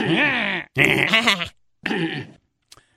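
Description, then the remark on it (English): A man chokes and hacks during a speech in three rough, strained bursts with short pauses between, his throat sounds almost bleating, loud, trailing off into faint clicks. “Do we have that clip of him choking up something in a speech over the weekend?”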